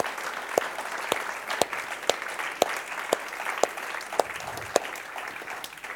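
An audience applauds steadily for several seconds, a dense wash of many clapping hands with a few sharper, louder claps standing out at irregular intervals; no one speaks.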